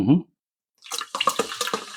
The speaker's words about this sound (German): Man kann hören, wie mein Bier sprudelt. Ja, sehr viel Kohlensäure in deinem Bier.